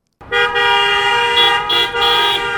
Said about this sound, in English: The nurses caravan through downtown El Paso Monday evening, honking their horns. Their message, stay home. They circled brightly lit San Jacinto Plaza, decorated for Christmas, with signs that read, "Stay Home."